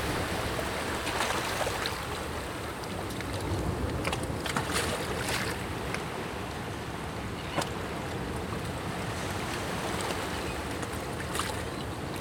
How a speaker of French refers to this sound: Je suis née dans une région au bord de la mer. Le son de des vagues.